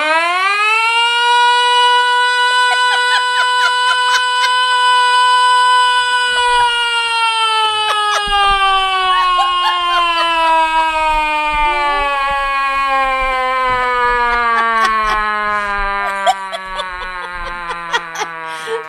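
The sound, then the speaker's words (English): A single voice imitates a siren, holding a loud, sustained wail that slowly slides downward in pitch for nearly twenty seconds, with faint background noise toward the end. “I can actually do the siren.”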